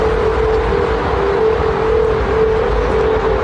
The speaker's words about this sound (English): Meanwhile, stateside, the Golden Gate Bridge has been overhauled to be more aerodynamic, but here's the problem. The change has made it so when the wind blows through it, the Golden Gate Bridge whistles and hums, and you can hear it for 3 miles.